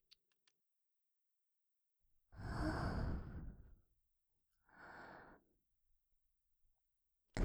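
Two soft, airy breaths are blown into the microphone, a long rushing exhale followed by a shorter one, with a few faint clicks before and after and no talking.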